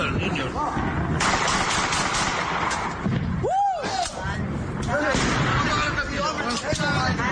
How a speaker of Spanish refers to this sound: Digo, no, es que están celebrando la salida de 2018 y la llegada del 19. Y lo que se ve es precisamente a unos tipos armados con unas armas de asustar pegando tiros así. Mira.